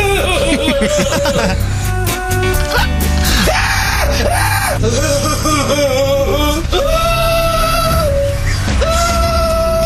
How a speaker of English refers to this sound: What kind of scream is that? It's like a comedy scream, isn't it? From one of those like haunted house programs.